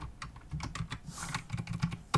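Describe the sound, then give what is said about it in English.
Rapid, uneven clacking of keys on a mechanical keyboard, sharp clicky strikes in quick bursts, fairly loud, with no talking. “Yeah, I'll get to hear my deafening keyboard, which I'm definitely going to edit out or have edited out because mechanical keyboards is not a good look for a podcast.”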